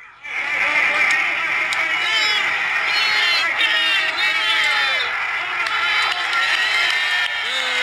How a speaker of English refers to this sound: I got this off of Instagram. They're all just cheering, you know. They're like steamed up for the call. And they just play it right off the radio.